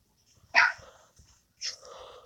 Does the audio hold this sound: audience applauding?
no